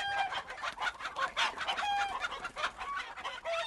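A dense chorus of chickens clucking and squawking, many birds overlapping in busy, continuous chatter with occasional sharper calls cutting through.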